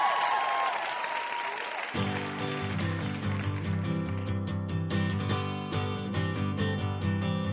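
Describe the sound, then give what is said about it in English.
A burst of audience applause and cheering for VIP guest W. Kamau Bell on the show Ask Me Another fills the opening two seconds, then a loud band-style music track kicks in with a steady beat, the clapping fading beneath it. “Let's hear it for our VIP, W.”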